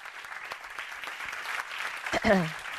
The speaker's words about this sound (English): Round of applause.